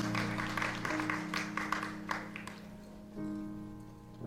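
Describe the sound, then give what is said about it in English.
An audience stands and claps together in praise of the Lord during a church worship service, a dense burst of applause that fades out after a couple of seconds, while a sustained organ chord holds underneath and swells again at the end. “Let's give the Lord a hand clap of praise as we stand.”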